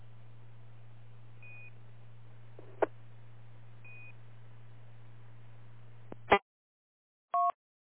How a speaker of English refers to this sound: I had an alarm coming through there, so I didn't want to key up with an alarm going in the background.